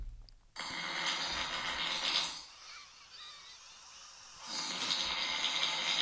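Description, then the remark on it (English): A person snores in two long, raspy, hissing breaths, each lasting nearly two seconds, separated by a quieter pause. No one speaks. “Here's an actual recording of me snoring.”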